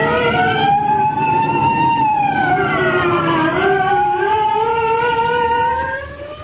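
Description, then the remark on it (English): The police siren of arriving state troopers wails steadily, its pitch sliding slowly down and then rising again in a long continuous tone, loud throughout before fading slightly at the very end. “Here come the state troopers.”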